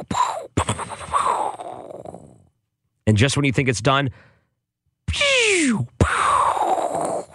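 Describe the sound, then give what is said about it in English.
Fireworks go off at night in loud, crackling bursts that rumble away, one preceded by a falling whistle, while a person speaks briefly in the gap between blasts. “I'm sick of trying to lay down at night, and this is what you hear.”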